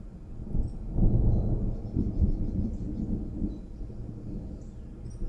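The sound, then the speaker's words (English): A loud, close thunderclap from a lightning storm breaks in after a brief pause, then rolls into a deep, heavy rumble that lingers for several seconds before slowly fading, with no voices. “We just had a big one real close. I mean, it was real close.”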